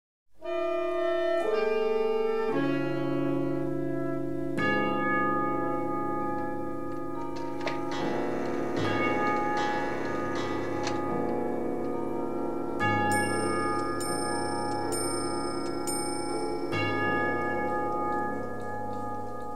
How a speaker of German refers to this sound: Uhren schlagen. Nicht für mich. Tote brauchen keine Uhren.